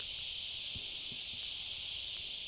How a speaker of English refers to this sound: A day in midsummer on Ibiza has definitely begun. And here in this little clearing in the woods, I've got the cicadas on surround sound.